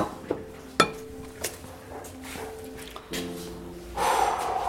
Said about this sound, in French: Allez, chin. Trinquons. Au futur.